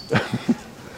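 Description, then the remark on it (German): A sharp, loud squeaking call of an exotic bird rings out once, followed by two quicker, lower chirps, with no talking, in the Prenzlauer Berg district of Berlin. “hört ein lautes Fiepen. Spannend. Ein exotischer Vogel.”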